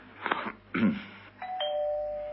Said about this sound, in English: Try the bell, sir.